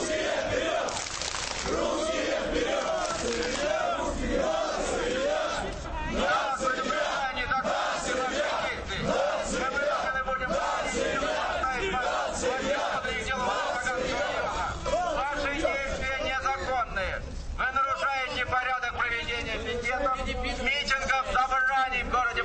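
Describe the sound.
A crowd of about 60 to 80 young men, many with shaved heads and mainly neo-Nazis, chants nationalist and homophobic slogans in unison outside a club, loud, with rhythmic shouted phrases repeating over a constant roar of many voices.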